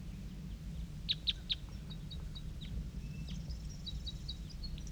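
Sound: female bird calling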